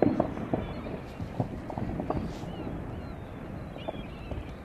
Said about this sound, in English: This is how it sounds and how it looks when the ice cap meets the sea. You see the azure blue of the ice there that's caused by the great pressure of the glacier above it, of the ice cap just weighing down on the ice.